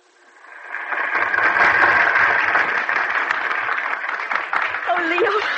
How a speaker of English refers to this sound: Listen to that applause.